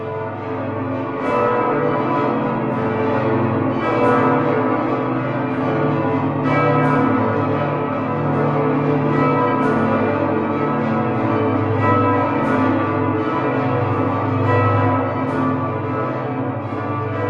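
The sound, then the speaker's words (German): Several tons-heavy cathedral bells in Braunschweig, cast in the late Middle Ages on the Burgplatz in front of the cathedral, ring together in a full, continuous peal, deep resonant tones overlapping with steady strikes and a rich, lingering hum, loud with no talking. “diese Glocken sind tatsächlich ja im ausgehenden Mittelalter direkt vorm Dom auf dem Burgplatz gegossen worden”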